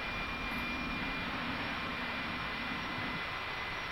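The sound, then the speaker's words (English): NOAA 17 weather satellite radio signal noise, recorded during a satellite pass and decoded into an image: a loud, steady wash of static-like hiss with a thin, continuous tone running through it, unchanging for the whole stretch, with no voices. “I'm going to raise the volume so that you can hear what the satellite sounds like”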